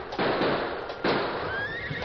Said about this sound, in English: They were just about to turn in for the night when gunshots rang out above the rain.